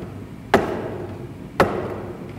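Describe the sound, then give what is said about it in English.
Two sharp, loud knocks about a second apart, each a hard rap with a brief ringing decay, standing alone with no voices. “Knocking.”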